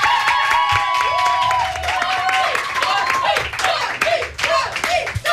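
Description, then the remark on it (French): A studio audience at the radio show Génération applauds a guest steadily with dense, rapid clapping and scattered cheers and whoops rising over it, loud, holding for several seconds without a pause. “Bonsoir Tommy, qu'on peut applaudir, pardon.”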